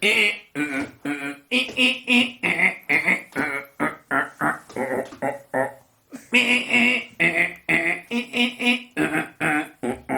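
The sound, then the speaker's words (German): A loud, harsh song of rapid, grating croaks and chattering syllables repeated in quick phrases, with one brief pause midway: the rasping, frog-like karra-karra song of a great reed warbler perched some way off. “Das ist der Drosselrohrsänger, ist der Große.”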